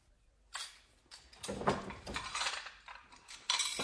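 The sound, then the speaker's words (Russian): Plates and dishes clink and clatter onto a table in several quick, uneven knocks, fairly loud, with no talking. “Вместо того, чтобы сидеть как истукан, поставь-ка на стол тарелки.”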